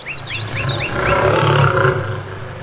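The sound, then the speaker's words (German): A very large lion roars loudly, a deep rumbling growl sustained for a couple of seconds, with bird chirps sounding briefly at the start. “Sam, hinter dir kommt ein Löwe. Ein ganz großer Löwe.”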